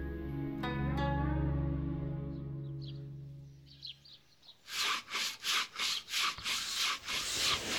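A sustained low musical tone gives way to brisk, rhythmic sanding of bamboo writing slips, about seven steady rasping strokes in quick succession, fairly loud. The slips are being sanded for calligraphy practice.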